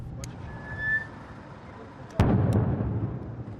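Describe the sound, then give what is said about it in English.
A single heavy explosion bursts out in the near-empty streets of Bakhmut, Ukraine, after a stretch of low outdoor rumble, its boom rolling and echoing for a couple of seconds afterward, with a fainter crack heard earlier. “In Bakhmut, explosions echo through the near empty streets.”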